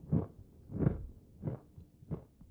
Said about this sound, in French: Et là, j'ai l'impression de pénétrer à l'intérieur de ma boîte crânienne. Et je sens ma mâchoire qui broie, qui écrase cette malheureuse biscotte et j'entends plus rien d'autre, tellement ça résonne dans ma tête.